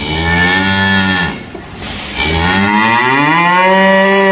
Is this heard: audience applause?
no